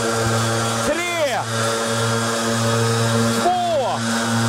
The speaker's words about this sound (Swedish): Ja, men alltså, vi kan väl ta och lyssna på hur det lät när vi körde 100 meter lövblås. Och där, oj, jävlar vad det låter.